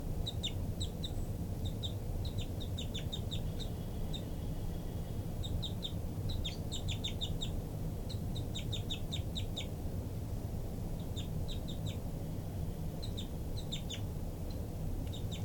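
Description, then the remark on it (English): High, thin bird calls come in repeated bursts of quick chirps throughout, flight calls by the bird tagged 5-9, over a steady low rumbling background, with persistent begging cheeps by a baby bird mixed among them. “Flight call by 5-9, begging by the baby.”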